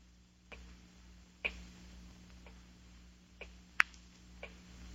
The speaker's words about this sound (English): Terrible clock. Ticking. Ticking. Yeah, I know. I've been sitting here listening to it. I can't stand it anymore. I'll stop it.